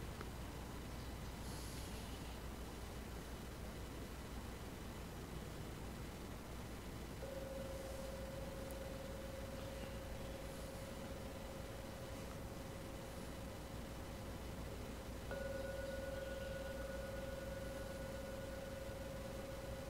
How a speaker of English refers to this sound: I will now ring the gong 3 times to end the meditation today.